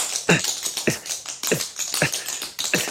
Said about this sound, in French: à moins qu'Antoine, ici et maintenant, vous livriez un numéro de claquette dont vous avez le secret. Oui, avec plaisir. Regardez.